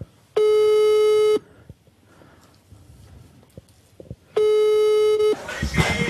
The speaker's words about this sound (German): Ich rufe jetzt an, das klingelt schon.